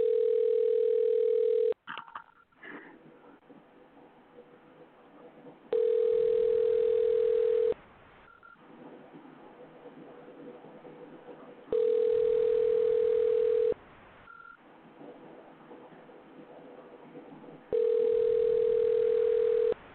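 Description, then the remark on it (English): A phone ringback tone repeats four times while a call is being placed, each steady ring lasting about two seconds, with quiet line hiss and faint clicks in the pauses between, as if heard through a handset. “Yeah, how many fucking rings are gonna be?”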